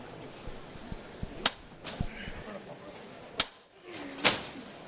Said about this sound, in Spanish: Al cielo, golpe de tres veces el llamador.